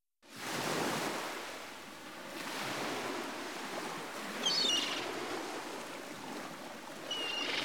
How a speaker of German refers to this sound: Ein Spaziergang am rauen Meer.